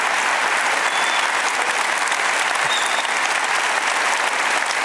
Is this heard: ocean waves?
no